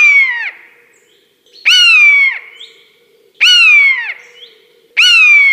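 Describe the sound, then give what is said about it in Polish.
Three shrill, mewing screeches of common buzzards, each a loud descending cry with rich harmonics, repeated about every one and a half seconds with quiet gaps between. Two buzzards give the cry as they dive at a man and veer off, one right, one left. “Myszołowy zapikowały na mnie, ale tuż nade mną, jeden skręcił w prawo, drugi w lewo i wtedy wydały po raz pierwszy ten charakterystyczny dla myszołowów taki piskliwy krzyk.”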